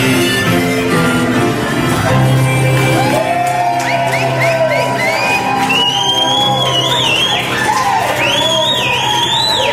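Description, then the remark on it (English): A lively crowd cheers, whoops and shouts loudly and continuously for about ten seconds, with rising and falling yells layered over a dense roar of voices applauding a harmonica performance played with the piano player in a bar. “You had a great crowd reaction.”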